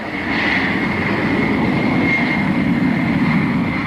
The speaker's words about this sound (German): steht die Boeing 747 auf der Startbahn. Pilot Jack Weddle gibt Schub und das Flugzeug hebt ab zum ersten Mal